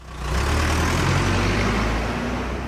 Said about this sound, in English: Rush hour in Dhaka, the Bangladeshi capital.